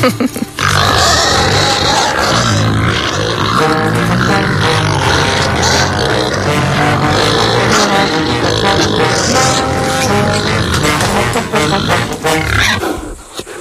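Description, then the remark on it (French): Black Gascon pigs grunt and snort in a loud, dense, overlapping chorus that runs almost without pause for about thirteen seconds, with rough low rumbles and occasional higher squeals. “Regarde les petits cochons là. Donc on a vu que c'était des cochons noirs.”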